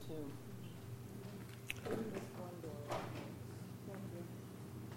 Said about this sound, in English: Can we open this door over here and thank you.